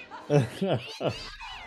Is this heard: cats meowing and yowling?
yes